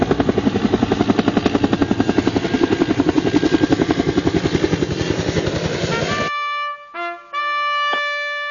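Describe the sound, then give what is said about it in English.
An aircraft takes off with a loud, rapid rhythmic chopping roar that cuts off abruptly, followed by steady buzzy harmonic tones broken by two brief gaps. “Prepare for takeoff.”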